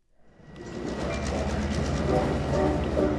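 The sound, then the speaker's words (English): A commuter train on Long Island's Gold Coast, a 20-minute ride from Manhattan, rolls along the rails, its deep rumble swelling within the first second into a steady, continuous roar with faint rhythmic clatter from the wheels. “It's a 20-minute train ride from Manhattan”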